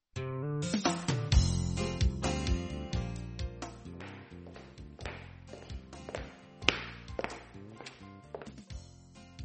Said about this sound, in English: I hear someone walking.